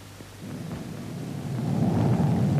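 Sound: thunder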